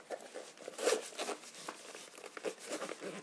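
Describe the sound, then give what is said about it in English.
A bag being zipped shut with a quick, scratchy rasp that comes in several uneven bursts, louder near the start and fluttering on in short tugs, with no one talking. “Let's sip it up.”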